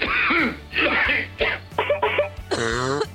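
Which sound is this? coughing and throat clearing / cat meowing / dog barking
coughing and throat clearing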